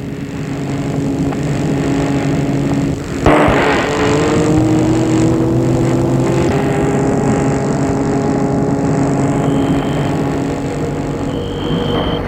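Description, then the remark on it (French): A red sports car with two people inside starts and drives off: its engine hums steadily, then after a sharp knock its pitch climbs as it accelerates and settles into a continuous drone. No one speaks. “Elle va vers une voiture de sport rouge.”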